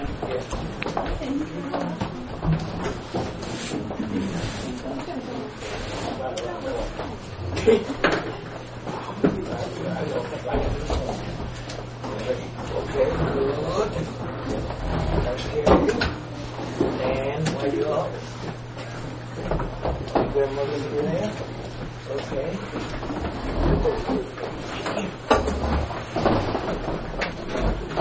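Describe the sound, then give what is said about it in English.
Chairs scrape and thump as they are dragged across the floor and moved into place, with a low murmur of people talking and a steady hum in the background. “Somebody better pull up a chair or two.”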